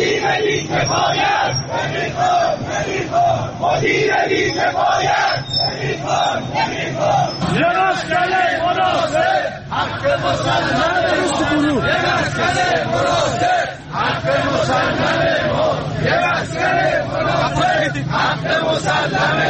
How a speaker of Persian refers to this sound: به صدای شعار تجمع کنندگان که از سوی یک از شنوندگان در اختیار ما قرار داده شده است گوش می‌کنیم.